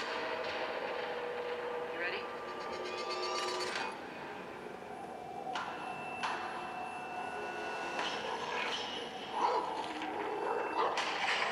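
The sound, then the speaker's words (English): A dog barks and yips several times at uneven intervals, the sharp calls standing out against a busy, steady background with faint indistinct voices. “I swear to God, if that dog is a fucking villain, like in Chernobyl Diaries.”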